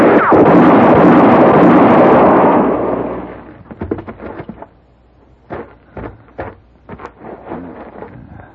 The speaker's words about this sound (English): Mr. Paladin, he shot the horse. All right, George, drop your gun.